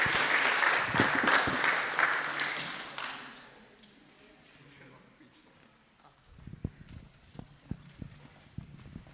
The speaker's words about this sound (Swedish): Vi är i kyrkan och alla lika mycket värda. Så det blir perfekt. En stor applåd till alla. Jättebra jobbat.